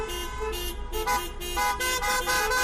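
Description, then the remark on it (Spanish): Many car horns honking at once in overlapping, sustained blasts and short toots over a low rumble of engines, with no voices, from car caravans in cities across Spain protesting the government's education law known as the ley Celaá. “Caravanas de coches que han recorrido calles y avenidas para decirle al gobierno que la conocida como ley Celaá es un despropósito”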